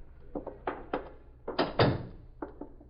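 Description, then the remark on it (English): A series of dull thunks and clatters, then a louder, fuller knock-and-rattle burst near the middle, like a door being worked open, with a few softer taps trailing after. “Get the door.”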